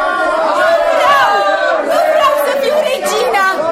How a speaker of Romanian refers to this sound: Am adunat câțiva oameni devotați și am făcut cunoscut poporului că Astarte trăiește. Și îndată tot văzduhul s-a umplut de strigăte.